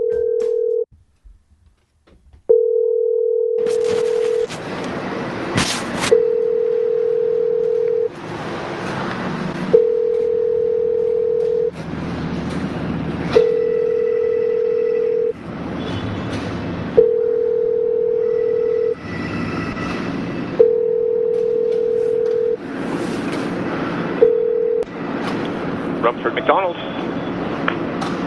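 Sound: telephone line ringing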